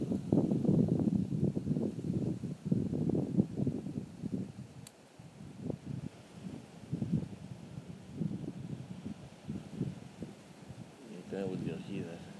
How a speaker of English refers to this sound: That's it. There's nothing to hear. Except that's the wind.